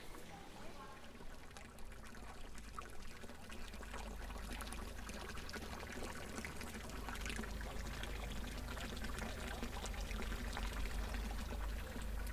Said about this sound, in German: Also im Murmeln und Plätscher dieses Brunnens hören wir drei Stimmen. Wir hören zuerst einmal das Wasser. Es ist eine große Klanginstallation in der Stadt Zürich, die niemand richtig kennt. Es sind 1200 Brunnen.